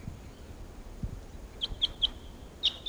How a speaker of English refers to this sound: Now, at 7:13 a.m. on October 13th, and a flock of about 8 Type 6s are here at Barfoot Park, calling to the decoys. And these are the wild birds.